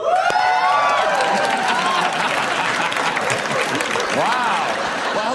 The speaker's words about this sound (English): I told you that a major American company is closing. Euphoria from the audience.